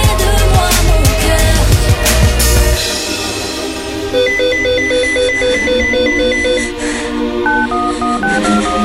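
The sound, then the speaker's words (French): A pager beeps in a run of short, high electronic tones that step between pitches, following a few seconds of loud rumbling noise; no one speaks. “Allô, c'est moi, mon beeper vient de sonner.”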